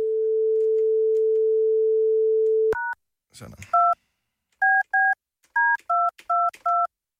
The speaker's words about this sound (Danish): Sådan. Så prøver vi at ringe.